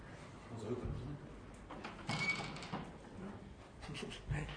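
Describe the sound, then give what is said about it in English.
A door is pushed shut with a soft sliding bump, followed moments later by a second low thud, with faint indistinct voices and rustling in the background. “I'll close the door”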